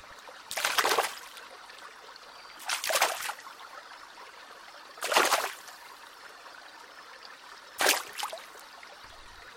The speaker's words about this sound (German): Ich glaube, wir sind in der Nähe vom Wasser. Ja, da ist ein Fluss.